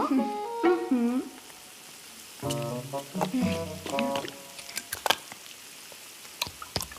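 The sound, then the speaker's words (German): Breaded cutlets, dipped in egg yolk and breadcrumbs, sizzle in a frying pan with a steady hiss and scattered sharp crackles and pops, while a voice hums or vocalizes over the first few seconds. “Und die brutzel ich in der Pfanne.”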